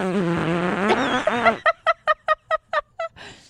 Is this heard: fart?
yes